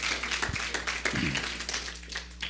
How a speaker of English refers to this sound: See, yeah, you can clap on that.